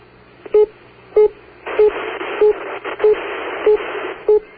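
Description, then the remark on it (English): A telephone busy signal: seven short, steady beeps repeating at an even pace over a hiss of line static, as if heard down a phone line. “Busy.”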